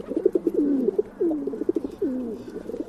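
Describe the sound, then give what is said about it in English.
A dove coos in soft, low, throaty phrases, three rolling calls in a row with brief pauses between, clear against a quiet background. “When we think of a bird to represent peace, many of us think of doves.”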